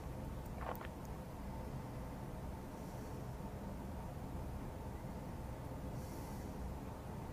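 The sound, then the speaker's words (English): A train rumbles steadily along the tracks, a continuous low, broad roar that never lets up, with a brief metallic squeal early on and faint hissing swells. No one speaks. “Rumbling highways and train tracks between them”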